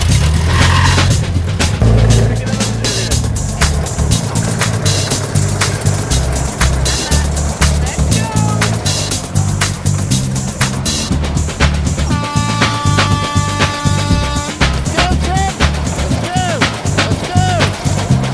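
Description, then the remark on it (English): Lawnmower engines sputter and rumble loudly as two brothers pull to start them at the start of a timed crop-harvesting contest, with repeated clattering bursts and revving throughout, while voices call out in the background. “Well, the techno teachers are off, but the brothers are having trouble starting their pesky lawnmower engines.”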